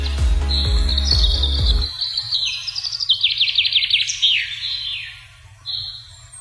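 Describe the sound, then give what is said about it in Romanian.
Black Forest ambience in Germany filled with bright, high birdsong: rapid trilling chirps and descending twittering phrases, over a soft steady background hush, with a low rumble in the first two seconds. “Uite cum sună, de exemplu, pădurea albă închis din Germania. Pădurea neagră.”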